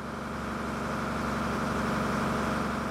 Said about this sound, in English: I'm travelling on a small boat on a sidearm of the Brahmaputra River on my way to visit Mesaki, one of the many river islands or chars in Assam.